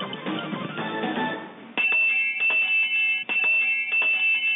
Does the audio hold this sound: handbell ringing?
yes